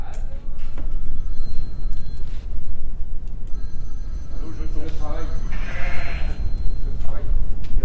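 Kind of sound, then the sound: animal, ewes bleating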